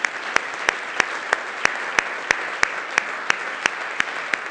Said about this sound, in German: Lass uns hier jetzt mal einen riesen Applaus geben.